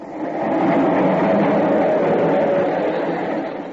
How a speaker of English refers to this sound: What's that? The subway. It's right under us.